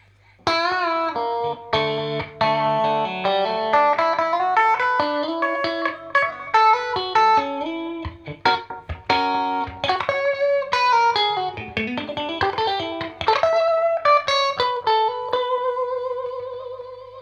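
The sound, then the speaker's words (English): An electric guitar played through an Orange Squeezer pedal plays a melodic phrase with a clean tone and a slight, steady overdrive grit, notes ringing with gentle sustain, moderately loud, with no talking. “And now when playing two or three strings, it won't distort that much, so you get the constant distortion, so to say, which helps you to play rather clean things with just that little touch of distortion that adds some warmth.”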